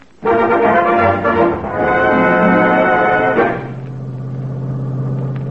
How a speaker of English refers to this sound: Today, my boss gave me a day off. And I thought I'd sneak away to the races and have a little fun. Hmm. I got in my car when nobody was looking and headed for Santa Anita.